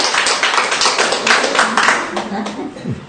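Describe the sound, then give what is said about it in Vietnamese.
An audience bursts into loud, dense applause to welcome all the saints, many hands clapping in a steady wash for about three seconds, with a voice faintly audible underneath as it tapers off. “Rồi xin chào mừng tất cả các thánh, một tràng pháo tay thật lớn nữa thưa anh chị.”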